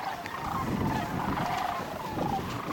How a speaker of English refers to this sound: Cranes produce a very loud sound. They have a very long, convoluted trachea, kind of the same effect that you have with a French horn or something, with a long passageway for the sound that it kind of amplifies it, and it comes out very loud.